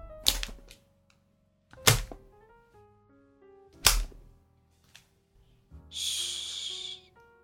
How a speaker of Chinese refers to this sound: 我真的很喜欢，皮鞭划过空气，落到你身上清脆的响声呢。